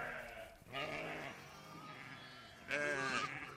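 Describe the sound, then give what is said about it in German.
Sheep and lambs bleat in overlapping calls in a sheep barn as its doors open onto the pasture toward the large flock, several wavering cries, with a louder, higher bleat near the end, set against a busy barnyard background. “Nach 2 Tagen etwa kennen sich Schafe und Lämmer. Die Stalltüren öffnen sich hinaus auf die Weide, zur großen Herde.”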